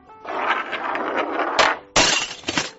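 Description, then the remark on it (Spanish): A cocktail glass holding a Bloody Mary falls and smashes at a bar on a ship, with a scraping clatter leading into two sharp, loud crashes of breaking glass, then bright tinkling shards settling. “Póngame otro Bloody Mary, por favor, que este se ha caído.”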